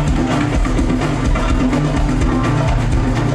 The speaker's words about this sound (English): driven by the pulsating beat of the krakibs, metal castanets that are played at astonishing speed.